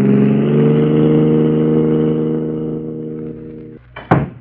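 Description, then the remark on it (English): A car engine revs with a loud, steady, throaty drone that gradually eases off as it pulls away, followed by a brief sharp knock near the end. No voices. “We gotta ditch this car and get away from here.”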